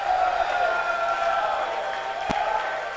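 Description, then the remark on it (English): A voice shouts out amid a murmuring audience, a sustained, raised cry held over steady crowd noise, with a brief sharp knock near the end. “Oh, somebody is shouting out there.”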